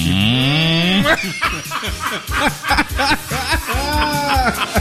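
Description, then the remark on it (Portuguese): A voice imitates an ox mooing with one drawn-out, low, rising call, followed by loud bursts of laughter and lively voices. “O boi vai falar.”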